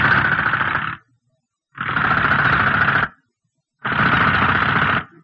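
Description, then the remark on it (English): A drill whirs loudly in three separate bursts, each lasting about a second, with short silent pauses between them, as it is tried against a basalt lava wall. “We try another drill.”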